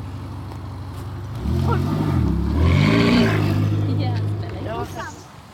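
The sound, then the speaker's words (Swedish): A Ferrari sports car engine idles with a low rumble, then roars loudly as it revs up and down twice, its pitch climbing and falling before settling back down. “När Ferrari-vrålen har tystnat en aning har vi samlat US Syds styrelse, i alla fall 3 personer.”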